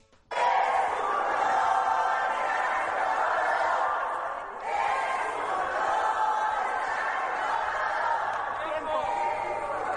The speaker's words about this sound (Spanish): Desde los escaños del oficialismo, respondió al grito: es un honor estar con Obrador, que retumbó varias ocasiones.